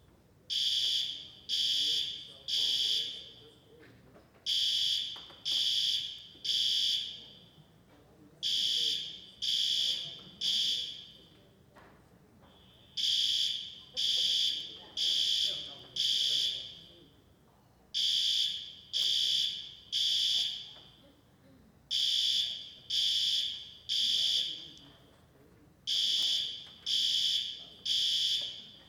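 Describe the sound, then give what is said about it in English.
A building fire alarm, sounding during a drill run by the building team, blares in loud, piercing beeps, grouped in repeated bursts of three or four with short pauses between, continuing steadily throughout with no talking. “I would invite you to enter into a practice of mindfulness, but not so easy with an alarm.”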